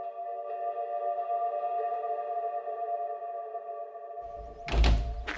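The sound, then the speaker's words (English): A back door leading from a house's kitchen onto a lawn creaks open with a long, steady, whining squeal, then swings shut with a single heavy thunk. No one speaks. “And we've come out through a sort of back door from the kitchen onto a lawn.”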